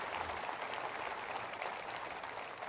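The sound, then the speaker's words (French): Steady audience applause saluting French-speaking Canadians across Canada, a dense wash of many hands clapping at an even level for a few seconds, with no voices over it. “Alors, je veux les saluer ce matin, tous nos amis francophones dans le Canada, et j'aimerais que vous leur souhaitiez, saluez-les en les applaudissant, les francophones canadiens à travers le Canada.”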